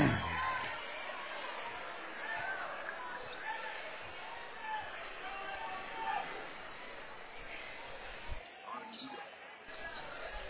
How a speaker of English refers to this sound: And we hear the Clay County fans come to their feet booing that one. If they had a better view as good as we did, they'd be booing even louder.